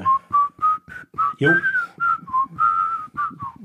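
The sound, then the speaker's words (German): A person whistles a lively TV series theme tune, a quick series of clear, bright notes with short gaps between phrases, and one note sliding upward in the middle. “Ja, das habe ich schon verstanden, aber es kommt ja ein Pfiff in der Serie.”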